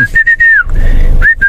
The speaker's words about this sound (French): Grand schtroumpf qui sifflote